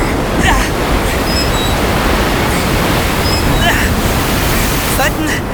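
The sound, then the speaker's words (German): A loud, unbroken roar of rough sea and wind as a storm moves in off the Faroe Islands, with waves surging and washing in a dense, steady wall of noise, and a few faint high chirps breaking through. “Ein Sturm zieht auf!”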